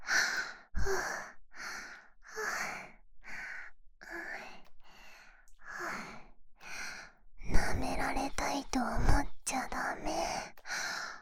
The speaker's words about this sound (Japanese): 先生のお耳、おいしそうです。吐息でゾクゾクしちゃダメです。